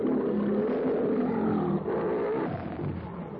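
A lion, Numa, roars loudly, one deep, rumbling roar that holds steady for a few seconds before easing off slightly at the end, with no voices present.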